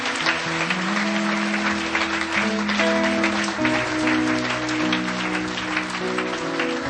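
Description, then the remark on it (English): An audience in a church applauds steadily to thank God, dense clapping filling the room, while sustained organ or keyboard chords play underneath throughout. “Let's just thank God. Let's applaud Him.”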